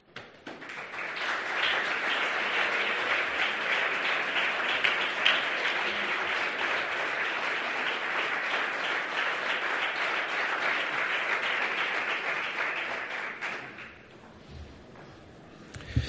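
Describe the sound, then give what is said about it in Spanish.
Sustained applause from a sizable crowd at an award presentation for the Festival Internacional de Música y Danza Ciudad de Úbeda, a dense steady wash of clapping lasting about fourteen seconds before fading away into quiet. “Un fuerte aplauso.”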